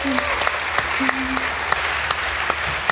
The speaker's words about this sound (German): Als letztes möchte ich nochmal gern Danke sagen an alle, die mitgeholfen haben. Am besten nochmal einen großen Applaus